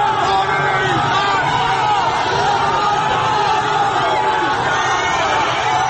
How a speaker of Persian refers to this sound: خودش را در حلقه جمعیتی می‌بیند که هراسان هم شعار می‌دهند و هم راهی برای فرار باز می‌کنند.